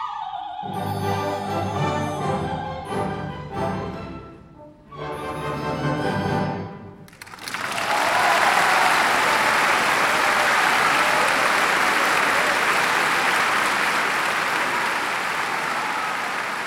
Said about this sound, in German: Der ganze Saal jubelte in unsagbarer Ergriffenheit.